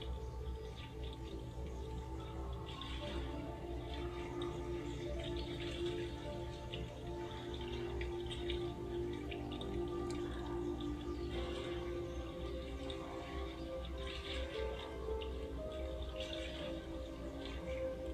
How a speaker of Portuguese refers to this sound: O barulho da água.